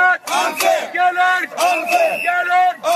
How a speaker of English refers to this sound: Chanting Gaylord Unfair and Marriott Unfair, cab drivers continued their effort to highlight Gaylord's preferential treatment for the vehicles of its transportation vendor, the French multinational corporation Veolia.